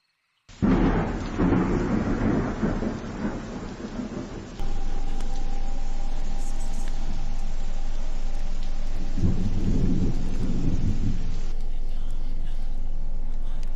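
A loud thunderclap opens and rolls off into a deep rumble over steady rain hiss, then a second, lower rumble swells and fades partway through; the thunder and lightning of Macbeth, Act 1, Scene 1, set on the battlefield.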